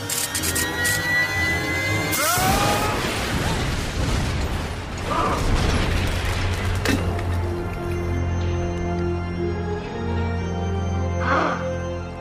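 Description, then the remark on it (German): A 624 AVA bike engine clatters and revs up to a rising whine as it is run to full speed, then explodes loudly, leaving rattling, creaking mechanical debris noise that fades over several seconds. No one speaks. “Bis das Bike explodiert. I can't stop it!”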